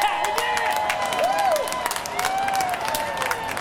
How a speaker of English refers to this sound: And those last sounds, Trump supporters outside the arena cheering as they watch him be nominated on a big TV screen.